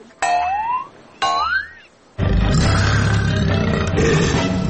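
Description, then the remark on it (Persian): Two short, springy rising tones sound one after the other, then a loud, rough leopard roar bursts in and rumbles on steadily to the end, with no one talking. “ناگهان یک پلنگ از جنگل بیرون شد.”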